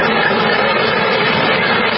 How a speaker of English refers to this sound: The microphone, you can't even see the microphone or the cable. There is probably 1,000 bees on this microphone.